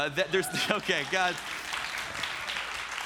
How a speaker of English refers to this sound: That was a good time to clap.